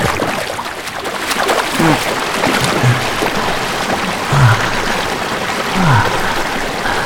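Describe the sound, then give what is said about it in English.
Raindrops pattering steadily onto a river's surface, a dense hiss of countless tiny splashes broken by a few deeper, bubbly plops. No one speaks. “That's a bit cold, but there's something about the raindrops hitting against the surface of the river, and feeling the earth, and feeling nature all around us, that makes the fire that burns in my chest burn a little bit hotter.”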